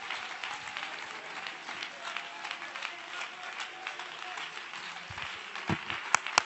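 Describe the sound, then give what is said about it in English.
A church audience claps continuously for several seconds in praise of the Lord, a dense, steady patter of many hands, with a few sharper, louder claps standing out near the end. “Oh, let's clap our hands and magnify the Lord.”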